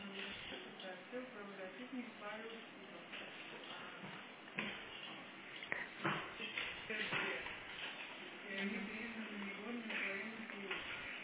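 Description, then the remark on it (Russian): Muffled thumping footsteps and objects being shuffled and moved around, with several sharp knocks midway, heard through a dull, narrow-sounding recording with indistinct voices in the background. “Вот ходит, топает, это самое, перекладывает.”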